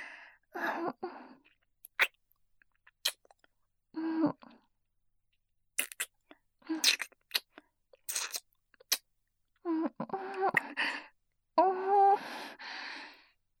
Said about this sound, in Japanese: 大好きな先生とのキス、何回しても飽きないの。